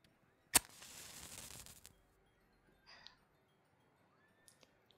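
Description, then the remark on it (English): A single sharp strike followed by a soft, steady hiss lasting about a second, like a match flaring, as incense is lit, then near-silence with a few faint light clicks. “Let me burn some incense.”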